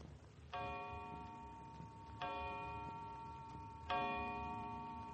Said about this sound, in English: The clock was striking four as Philippe left.